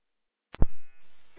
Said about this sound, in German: Also mein Piepser ging jetzt nochmal, ich weiß nicht, ob er die Drehleiter alarmiert hat oder so, weil die ist mit meinem Piepser drin.